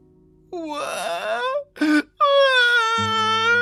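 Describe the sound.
A voice imitates a young badger sitting one morning in a wide, sunlit green clearing, crying inconsolably: loud, drawn-out wails broken by a short sobbing burst, then another long, sustained howl, alone with no talking.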